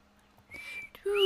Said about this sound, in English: I'm a terrible whistler. I can't whistle. I can't whistle either.